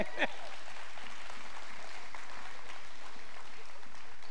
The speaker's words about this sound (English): If you're younger, though, y'all head to kids' church. Y'all clap for them, please.